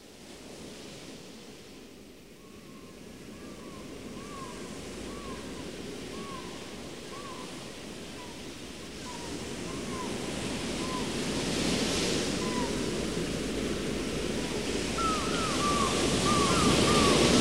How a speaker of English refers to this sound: 不断地听到海浪的声音和海鸥的叫声。